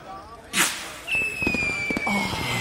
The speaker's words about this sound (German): Wer hat die Raketen? Gehen wir auf den Balkon? Ja, wir machen das Feuerwerk auf dem Balkon.